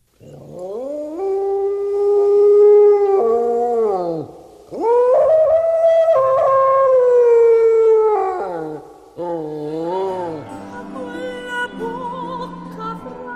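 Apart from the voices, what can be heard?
wild dog howling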